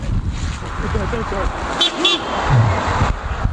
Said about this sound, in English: Wait, if a car's coming, watch out. Film the car.